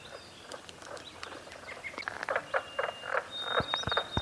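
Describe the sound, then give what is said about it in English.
A chorus of mink frogs gives sharp, tapping croaks in quick, irregular bursts, overlapping, while a thin, high bird whistle sounds faintly in the background. “I've always called them carpenter frogs, which is just kind of a name that I remember because they sound like tapping. But actually they're mink frogs.”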